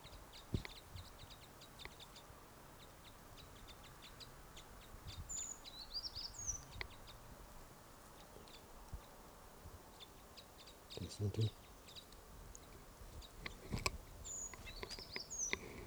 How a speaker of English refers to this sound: There's the calls of the flock.